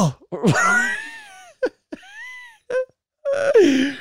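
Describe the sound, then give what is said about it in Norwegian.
A voice imitates a man's choking cough: a strained, wheezy wail followed by a few short hacking bursts and a final rasping groan, fairly loud with brief pauses between. “Og så hostet han og sa,”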